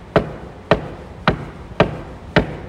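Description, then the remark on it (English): Five sharp, evenly spaced knocks on a door, each about half a second apart, fairly loud with a steady, deliberate rhythm and no voices. “Knocking on the door to his church.”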